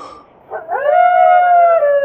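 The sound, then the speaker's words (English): A wolf lets out a single loud, sustained howl that rises and then holds a steady pitch, sounding close and clear against a quiet background with no one speaking. “That wolf's mighty close.”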